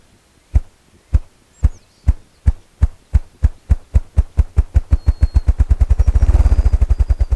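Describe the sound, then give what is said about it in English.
A male ruffed grouse performs its drumming display, thumping the air with its wings while standing on a resonant fallen log in a brushy thicket: deep, hollow thumps start slow and evenly spaced, then speed up into a rapid, blurred whirr before stopping. Birds chirp faintly in the background. “Well, what you're hearing is a male ruffed grouse performing his drumming display.”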